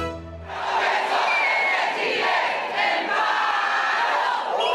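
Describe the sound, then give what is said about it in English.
A large crowd of striking teachers, over 30,000 demonstrators marching to Chile's Congress building in Santiago, shouts and chants together in a loud, continuous roar of many voices, with rising collective yells and no individual speech standing out. “Teachers are shouting.”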